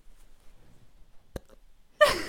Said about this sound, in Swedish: Hör du den hicka? Vi ska ha med det.